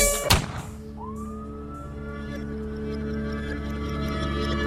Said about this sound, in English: Look, when you hear the sirens coming, I can hear the sirens coming. Better run when you hear the sirens coming. I can hear the sirens.